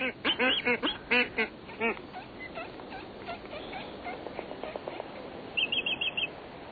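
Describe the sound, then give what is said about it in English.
Black-footed albatrosses call in a loud flurry of nasal, quacking bursts, then softer, scattered calls continue over a busy colony background, ending with a quick run of thin, high squeaks. “the black-footed albatross collects squid and masses of flying fish eggs with its long, hook-tipped bill”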